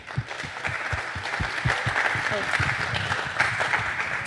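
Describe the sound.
An audience breaks into sustained applause for a speaker introduced to give a talk about software, a dense, steady wash of many hands clapping at a fairly loud level for several seconds, with a few voices faintly mixed in.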